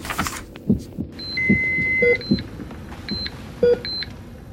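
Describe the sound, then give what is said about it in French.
An electrocardiogram monitor beeps in short, clean electronic tones over a steady, thumping heartbeat rhythm, with a longer sustained tone partway through, as it shows a positive trace after a patient's heart restarts following electrode shocks; no one speaks. “En effet, l'écran de l'électrocardiogramme affiche un tracé positif et fait jaillir son bip caractéristique.”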